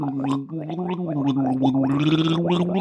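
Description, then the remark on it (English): A person imitates a fish voice by gargling water to speak Aquan, producing a continuous bubbly, wet warble with a pitched, voiced quality that wobbles up and down for about three seconds without clear words. “Hang on, can you do a fish voice?”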